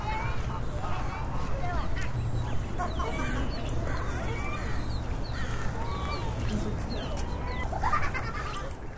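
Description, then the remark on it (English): A busy, curving park pond at Alton Baker Park in Eugene, Oregon, with ducks, geese and gulls calling over one another, a steady overlapping clamour of quacks, honks and cries with a low hum and murmuring voices underneath. “One of these is Alton Baker, a popular place for parents to bring their children to see the ducks, geese, and gulls that crowd the park's curving pond.”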